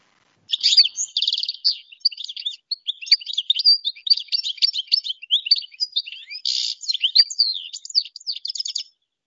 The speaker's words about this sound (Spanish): Canto del jilguero.